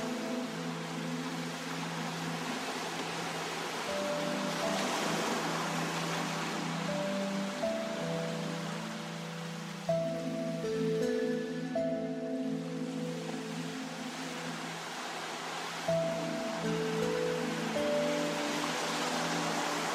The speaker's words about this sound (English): When you finish, you can just relax and listen to the ocean waves.